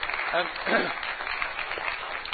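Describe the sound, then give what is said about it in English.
An audience at a church service claps steadily for a couple of seconds for an assistant, a dense, even patter of many hands, with a few voices briefly calling out over the applause. “Let's give my beautiful and handsome assistant a big clap.”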